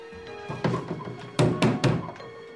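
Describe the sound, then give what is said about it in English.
Hollow knocks on a fake replica TV in a house where everything is fake: a couple of softer thunks, then three loud, evenly spaced raps in quick succession. No voices. “Elliot knocks a replica TV.”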